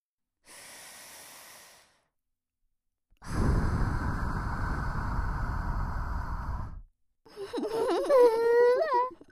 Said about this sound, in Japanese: サキュバス様の吐息浴びせられて嬉しいでしょ？今から両耳同時に熱い吐息浴びせてやるから、その間ありがとうございますって言い続けて。ほら、行くよ。